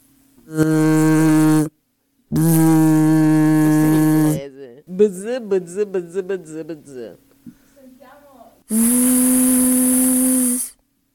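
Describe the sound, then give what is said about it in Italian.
Voices imitate a bee's buzz with three sustained, steady low buzzes, the last one hissier like a drawn-out 'zzz', with a short stretch of chatter between the second and third. “Voglio sentire come fa l'ape.”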